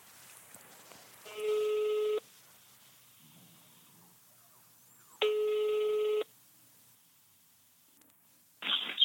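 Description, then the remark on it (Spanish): A phone call rings out over a speakerphone held beside a microphone: two loud, buzzy ringback tones of about a second each, spaced a few seconds apart, with a third beginning at the end, over faint background hiss. “Ponlo en speaker y ponlo al lado del micrófono. Sí. Marcando.”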